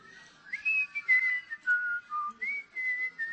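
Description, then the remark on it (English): An audience whistles a meandering tune together while a Bible verse is looked up, the main melody clear and steady, with fainter overlapping whistles underneath and a soft background murmur. Nobody talks. “Everybody can whistle.”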